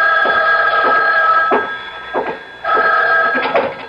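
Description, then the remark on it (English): A telephone rings loudly, two long trilling rings separated by a brief pause, with no voices present. “But before I could follow the thought through, the phone rang.”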